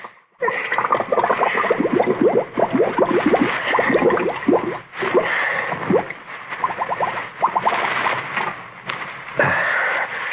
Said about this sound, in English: Get that head of yours under the water. No. Drink it, Rico. Fill your double-crossing lungs with a drink.